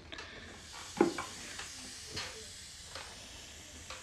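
A pumpkin cannabis dab sizzles on a hot nail: a steady, soft hiss with a few sharp crackling pops scattered through it, no voices present.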